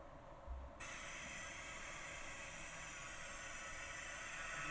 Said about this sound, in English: Yeah, in this result, in our test, the target drone just passed through without any response. We think it's because our sonic wall is too thin.